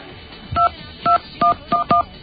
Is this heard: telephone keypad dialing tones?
yes